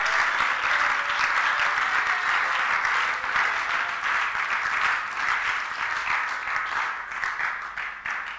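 An audience at a church service applauds steadily throughout to celebrate and thank God, a dense wash of many hands clapping at once, loud and sustained, with no voices rising above it.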